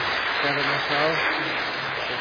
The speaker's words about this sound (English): So he's off cigarettes now. Isn't that brilliant? 3 weeks now. I give him a round of applause. He's off 3 weeks.